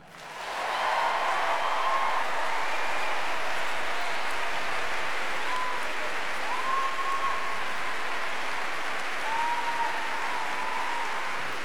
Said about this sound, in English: And now, an even more ginormous, humongous cheer for the man whose job it is to keep them all under control.